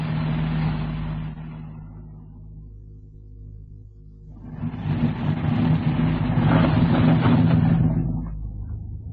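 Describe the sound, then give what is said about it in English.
A heavy truck engine rumbles steadily, then swells louder as it drives past, its deep growl peaking before easing off again. “Trucks come in and out of here all the time.”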